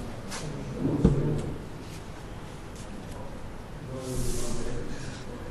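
A door opens or shuts with one sharp thud of the latch, followed a few seconds later by a softer scraping shuffle, against a quiet background with faint murmuring.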